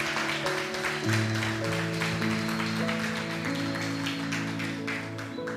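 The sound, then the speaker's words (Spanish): An audience breaks into steady, dense applause to God for the families from Mexico present. The applause runs the whole clip at an even loudness, with sustained low organ- or keyboard-like chords holding underneath the clapping. “Eso, un aplauso a Dios por sus vidas.”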